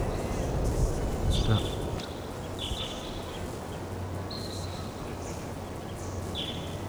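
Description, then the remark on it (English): A pair of wild birds in Ponderosa pines in a canyon give short, high-pitched calls, four or five brief cries spaced a second or two apart, over a steady rushing background noise and a low hum. “Hear the birds, but don't see them.”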